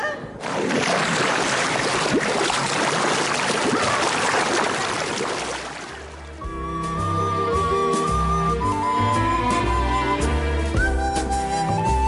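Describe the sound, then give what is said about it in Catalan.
A loud, sustained rush of splashing water as a bird folds its wings and dives headfirst into the water like an arrow, lasting about six seconds before giving way to bright melodic music. “Ai, que es tira de cap a l'aigua com si fos una fletxa i jo cauré.”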